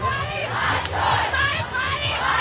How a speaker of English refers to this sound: After the Supreme Court struck down Roe v. Wade, which legalized abortion, there were cheers outside the court. And there were jeers.